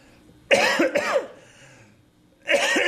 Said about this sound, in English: Forgive me for coughing.